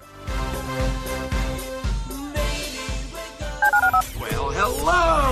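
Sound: telephone keypad dialing tones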